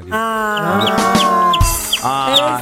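Repeated short, high chick peeps chirp in a quick rhythm over a sustained, tuneful harmonic backdrop, fairly loud and close throughout, with no talking.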